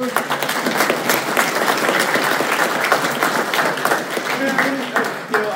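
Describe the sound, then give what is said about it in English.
Steady, dense applause from an audience fills the whole stretch, many hands clapping at once in a continuous wash of sound, with faint voices mixed in beneath it. “You can skip all the applause stuff because he'll have more time to ask questions.”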